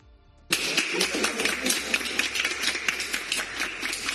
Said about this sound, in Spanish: Y aplausos como estos hemos oído muchos, afortunadamente desde hace un año, pacientes que se han curado después de mucho tiempo de ingreso por coronavirus.